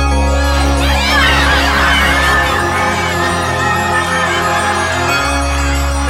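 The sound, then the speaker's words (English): As a clock strikes midnight, a crowd of elves roars and cheers in approval, a loud, continuous wall of excited, high-pitched shouting with rising whoops, over a steady low drone that runs throughout. “The clock struck midnight as the elves roared their approval.”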